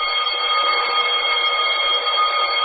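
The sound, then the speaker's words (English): A loud, continuous alarm bell rings steadily without pause, a harsh metallic clangor with no voices; the alarm is sounded by people stuck inside after they stopped. “That's what this here alarm's for, you know.”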